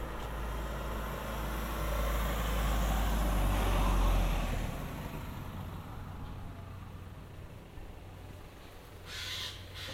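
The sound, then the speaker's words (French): A car passes by, its rumbling engine and tire noise swelling to a peak within a few seconds, then fading away into quieter outdoor ambience. “Là, là, là, là, attention à la voiture qui vient de passer quand même.”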